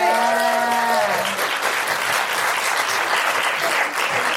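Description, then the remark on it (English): Sustained audience applause for a guest coming to the mic to talk about a charity and trust, loud and dense with clapping filling the whole stretch, while a brief harmonic tone, like a cheer or whoop, rises at the start and fades after a second. “Big round of applause”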